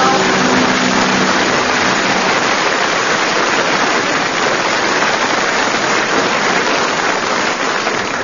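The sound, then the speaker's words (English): An audience applauds a sung comic performance in a dense, steady wash of clapping that stays loud and even for about eight seconds, with a faint tonal trace fading out right at the start. “Well, judging from the applause from the audience, the scores are that you've all done extremely well on that one”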